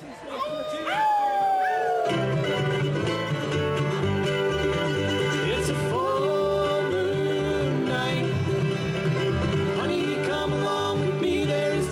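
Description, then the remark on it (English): An audience at a live band concert howls like wolves in rising and falling cries for a couple of seconds, then the band starts up loud with a steady bass beat as scattered howls fade into the music. “Feel Free to Sing Along if you get the chorus, or Howl if you so are so inclined.”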